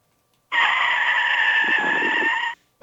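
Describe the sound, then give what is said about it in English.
A loud, steady screech of car tires lasting about two seconds, a shrill sustained squeal that starts abruptly and cuts off just as suddenly, with no voices. “That's a car screeching too.”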